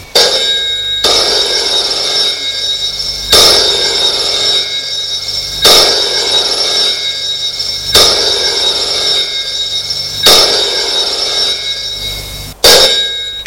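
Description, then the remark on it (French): An old-style telephone bell rings loudly and insistently in an office, its metallic trill repeating in regular bursts about every two seconds, with no one talking. “La sonnerie du téléphone retentit.”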